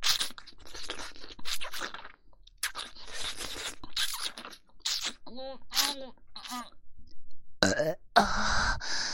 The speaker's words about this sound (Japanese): こうやってゲップをすると。すっきりしちゃいます。